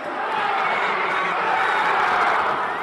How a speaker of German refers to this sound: Das Spiel beginnt. Bei jeder Chance bäumt das Publikum sich auf.